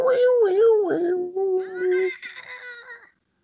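cat meowing

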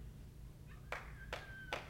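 audience clapping

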